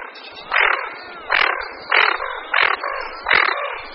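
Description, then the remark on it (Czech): A series of five hoarse, raspy growling calls from a water bird, evenly spaced about every half second, clear with no talking. “Hlas je chraptivé vrčení, ptáci se jim ozývají jak na hladině, tak při vyrušení a také při vzletu.”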